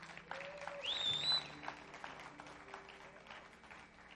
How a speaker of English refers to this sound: So I just want to give it back to Jesus. If you could give him a hand clap.